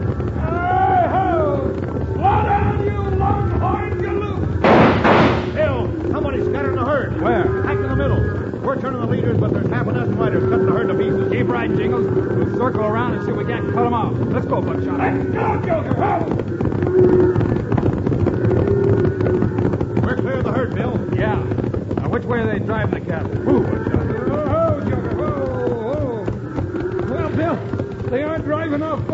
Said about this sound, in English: Jingles are surprised by a sudden stampede started by a volley of shots. With the trail boss Scotty, they swing their horses in front of the galloping herd, hoping to turn it before they're trampled under the thundering hooves.